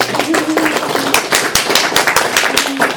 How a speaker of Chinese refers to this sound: 哇，我们掌声好不好？